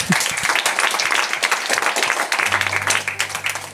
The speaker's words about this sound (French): Ils sont venus nous l'apporter gentiment, transport et ça tout s'applaudit. Accordé. Vous pouvez applaudir.